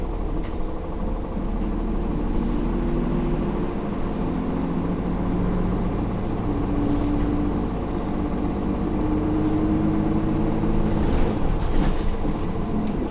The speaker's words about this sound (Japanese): はい、まもなく新室見です。バスが止まってから席をお立ちください。